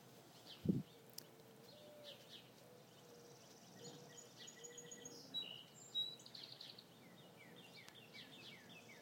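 Birds chirp and twitter softly, a scattered chorus of high calls over a quiet outdoor hush, with one brief low thump near the start.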